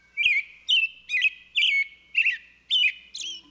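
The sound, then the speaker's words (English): A bird of a kind that builds its nests on a structure that is moving all the time calls repeatedly, seven bright chirping notes in a steady rhythm, clear, with no other sounds around them. “These birds are making their nests that contain their precious eggs on a structure that is moving all the time, and they have found a way to do it, which I think is just remarkable.”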